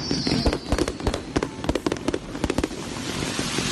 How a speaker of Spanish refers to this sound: Esto es el Hotel Marriott de Lima, lugar donde trataba de descansar la selección de Nueva Zelanda. De pronto, a las 3:00 de la madrugada, se produce la traca de petardos que acabamos de escuchar.